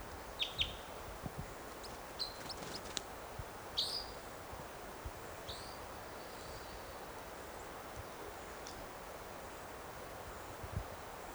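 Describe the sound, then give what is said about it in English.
Scattered short, high chitter calls of a lone male red crossbill perched in a tree above a net site, a few quick bursts spaced irregularly over a steady hiss of wind and rustling, fairly faint and with no talking. “Is it chittering?”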